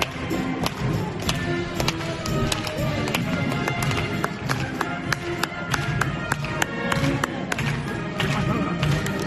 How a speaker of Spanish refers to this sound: Esos aplausos casi tímidos, pequeñitos, que se dan con poca fuerza, son los de los pacientes de ese pabellón convertido en un hospital aplaudiendo a los sanitarios.